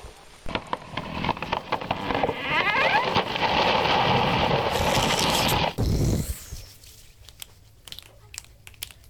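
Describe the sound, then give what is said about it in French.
Heavy rain pours down in a loud, steady rush after a few crackling patters, flooding the ground, then stops abruptly partway through, leaving only faint rustling and quiet. “Mais la pluie se met à tomber et le sol est inondé.”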